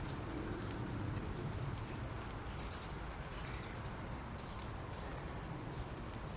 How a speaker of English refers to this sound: The wee birdies are still flitting about, even though it's raining, doesn't make any difference to them. And little feathered friends.